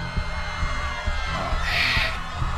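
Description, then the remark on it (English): A dense, roaring crowd noise with shrill screams rising above it near the middle, layered over a low rumbling hum and a few dull thumps, continuous throughout, as powerful bands of energy destroy the center ring. “The crowd screams as the powerful bands of energy travel down and destroy the center ring.”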